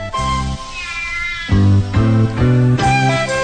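A cat meows loudly, several drawn-out, tonal cries in quick succession with brief pauses between them, and no one talking.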